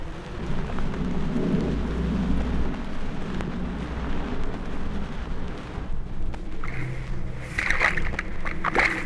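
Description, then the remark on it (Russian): Watery splashing and sloshing with a steady low rumble underneath and a cluster of brighter splashes near the end, as bare feet step through a cool, shallow forest puddle after rain, its bottom lined with soft grass. “Лужицы лесные. Сейчас после дождя их больше стало. Прохладная лужица. Дно устлано мягкой травой. Хорошо шлепать босиком.”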